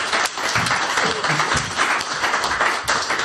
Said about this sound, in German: Und einmal einen Applaus bitte für unseren Fotografen.